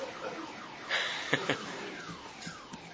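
A car alarm wails with repeated sweeping tones, broken by a few sharp electronic bursts, with no voices present.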